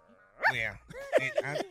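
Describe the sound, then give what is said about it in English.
A woman's voice imitates a dog barking during a church service: a drawn-out bark followed by three or four quick, yelping barks, fairly loud, with no other talk. “Pastor, what do you want to do about this woman barking in service?”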